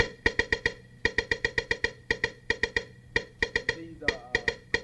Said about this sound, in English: So basically, all the sounds are in this machine. And these are rim shots. It sounds like...